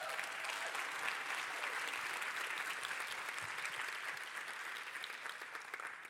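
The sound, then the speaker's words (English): A roomful of people applauding steadily, dense crackling claps sustained at an even level throughout with no talking over it, tapering only slightly near the end. “And before they start, another huge round of applause, please.”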